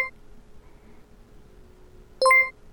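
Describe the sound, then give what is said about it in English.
A single bright electronic tone sounds near the end, a short harmonic chime that stands out against a faint steady hum, a progress signal from Windowize software while it installs its default apps. Nobody speaks. “So Windowize is now installing its default apps, and those tones you're hearing are just there so you know that Windowize is working.”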